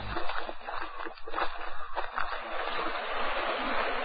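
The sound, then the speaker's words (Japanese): Steady rushing water of the upper Kumano River fills the scene, a broad continuous roar like a river running over rapids, with occasional splashy surges rising and falling. “今は熊野川の瀬音に包まれ、待ちわびた宿のある池田尾村の山見を見とる。”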